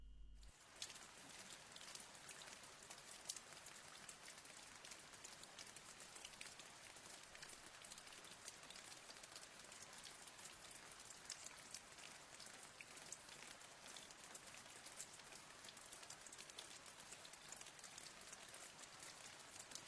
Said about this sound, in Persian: از جمله صداهایی که خیلی از شما گفتین و ما خودمون هم خیلی خوش داریم صدای باران هست.